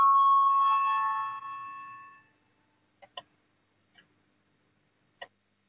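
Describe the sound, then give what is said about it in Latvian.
A parliament voting bell rings before a vote on the sixth proposal, from the Union of Greens and Farmers faction, as one steady, bright pitched tone for about two seconds, then fades out, followed by a few scattered sharp clicks in otherwise quiet air. “Lūdzu, zvanu, balsosim par sesto Zaļo un Zemnieku savienības frakcijas priekšlikumu.”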